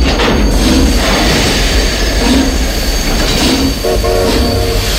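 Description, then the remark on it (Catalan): A sleeper train rumbles loudly and steadily as it brakes suddenly, with a thin metallic squeal running throughout, a brief harsher screech of wheels near the end, and a big jolt. “El tren ha frenat de cop”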